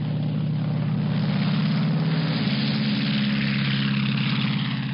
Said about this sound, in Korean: 오랜 시간을 비행하는 동안 포스트의 귀에 들리는 것은 오직 엔진 소리뿐이었습니다.